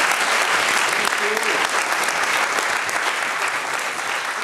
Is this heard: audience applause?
yes